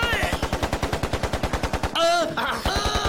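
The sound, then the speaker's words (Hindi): A loud burst of rapid automatic gunfire aimed at a group of people, shots rattling in a steady fast rhythm for about two seconds, then a brief whistling, ringing sound as bullets rain down. “ये बता, हम पर गोलियां बरस रही हैं, एम्युनिशन वहाँ है।”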